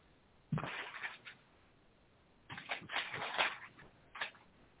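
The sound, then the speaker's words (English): Papery rustling of book pages being turned: two longer flurries of flipping and a brief final flick, moderately quiet, with no voices. “I hear those pages turning.”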